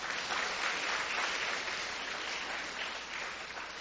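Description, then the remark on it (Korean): An audience claps steadily for a few seconds, a dense, even wash of many hands applauding together, with no one speaking over it. “우리 박수 한번 치고, 예.”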